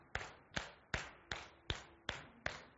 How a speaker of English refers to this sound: So if we're thinking in terms of the time signature and the beats per measure, so this is in 6/8. So let's, if we can, let's clap that out. So we'll clap on 1, 2, 3, 4, 5, 6.